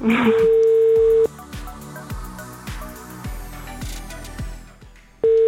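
A telephone ringing tone as the Radio SK morning programme Ranne Ptaki calls a listener's mother on air: a steady mid-pitched tone sounds for about a second, falls silent for several seconds, then returns, with rhythmic music playing underneath throughout.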